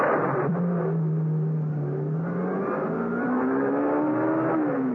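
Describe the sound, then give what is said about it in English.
A sports car engine revs loudly, its tone holding steady before climbing in pitch as the car accelerates away. No voices are heard over the engine. “Minutes later, Martha joined Brumfield in the sports car.”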